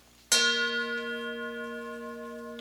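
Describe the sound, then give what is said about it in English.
A single meditation gong is struck once during a meditation, ringing out with a bright attack and a long, sustained, shimmering tone that slowly fades, heard alone with no voices. “And as the gong sounds, turn the bottom one over, the least of the important identities.”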